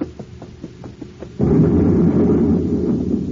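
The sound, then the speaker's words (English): A steady series of soft rhythmic pulses gives way to a sudden loud blast as a vat explodes in a lab, followed by a sustained low roaring rumble that slowly fades. No one speaks. “One of the vats blew up.”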